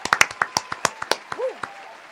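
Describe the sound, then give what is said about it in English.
A brief round of applause from a small group: a dozen or so sharp claps in a quick uneven patter that thins out after two seconds, with a faint voice rising underneath. “I'm going to go ahead and give us a round of applause because we got through that.”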